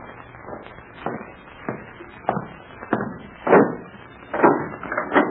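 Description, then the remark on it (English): A guard opening a door, heard as a string of sharp mechanical clunks and knocks at an uneven pace, with a couple of louder, broader thumps near the end and no voices. “Well, the guard is going to open the door now, so let's get going.”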